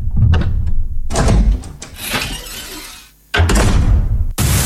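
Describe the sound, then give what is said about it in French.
A door leading outside, at the top of a climb up a lighthouse, is pushed open with loud rattling and scraping, a few heavy clunks along the way, a brief pause, then a final solid bang. No one speaks. “Vous poussez cette porte.”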